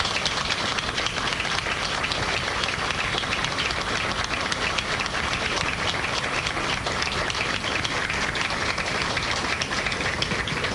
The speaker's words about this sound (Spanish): A Cuca, la esposa de Cordeiro, que siempre estaba dispuesta a hacer algo para Recordando a Galicia. Nunca tenía apuro, era para Recordando a Galicia, ya estoy. A esa mujer les pido un aplauso.